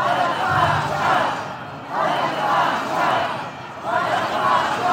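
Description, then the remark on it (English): A large crowd of Israeli protesters in a Tel Aviv square chants in unison, shouting "Resignation now" for the resignation of Netanyahu's government, voices rising and falling in a steady repeating rhythm of loud shouted phrases, dense and filling an open outdoor space. “And Israelis were packed in a Tel Aviv square, they were shouting for the resignation of Netanyahu's government.”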